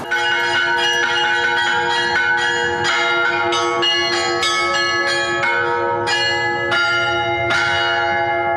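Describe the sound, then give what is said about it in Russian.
Church bells rung by a bell-ringer in a full, layered peal, with repeated strikes every half second or so over a sustained humming drone of overlapping tones, loud with no voices. “Хотя они не настраиваются как рояль, но остаются полноценными музыкальными инструментами, именно благодаря которым рождается колокольный звон.”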